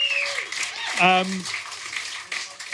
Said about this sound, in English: We'll have a cheer, please, for Green King and for Red Bull as well, our friends tonight.